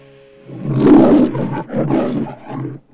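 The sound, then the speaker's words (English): A lion roars loudly in a few rough, growling bursts that swell and fade over a few seconds, with no talking, in the Metro-Goldwyn-Mayer (MGM) studio logo, where the lion's head is framed by golden reels of film. “A lion's head is framed by golden reels of film.”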